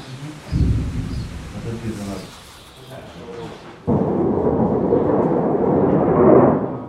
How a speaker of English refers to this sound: Either quiet or with the sounds of explosions.